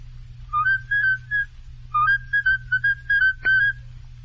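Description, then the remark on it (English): A man whistles a bright, familiar popular tune in two short phrases of quick, clear notes, moderately loud, with a steady low hum underneath and a brief click near the end. “All right, can you whistle then?”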